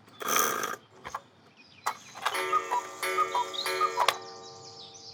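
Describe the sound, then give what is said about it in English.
A clock, given to Frosty as a birthday present, ticks in a quick, steady rhythm over a sustained ringing tone, after a brief noisy burst and a sharp click. No one speaks. “This clock is for you, Frosty.”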